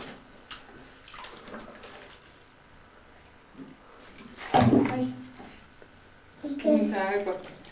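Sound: child splashing water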